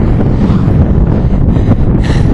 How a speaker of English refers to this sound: As you can hear from the wind, it's incredibly windy out here as we head towards what's affectionately called the Windmill Farm. Of course, it's going to be windy at the Windmill Farm.